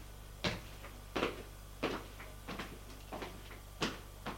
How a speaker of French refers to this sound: Frappe à la porte.